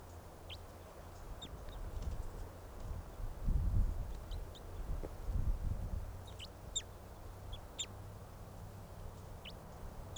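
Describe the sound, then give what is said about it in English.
Crossbill calls: short, sharp high-pitched chip notes from a flock of crossbills flying around while birds are being caught in a net, scattered irregularly in small bursts over a steady low rumble, with no one talking. “Oh, there are more than just the two crossbills.”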